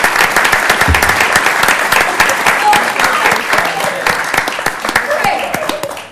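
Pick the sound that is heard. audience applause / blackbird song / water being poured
audience applause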